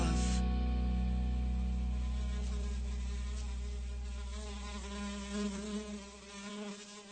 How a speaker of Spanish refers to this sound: Me parece que he visto una mosca fugaz.